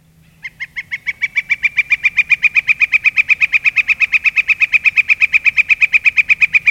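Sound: northern flicker calling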